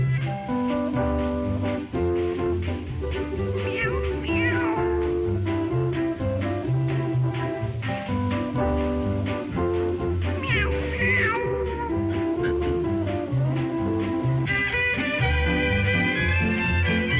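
Cat meows rise over a busy, continuous musical accompaniment, with a couple of clear upward-sliding cries standing out amid steady instruments that play loudly throughout.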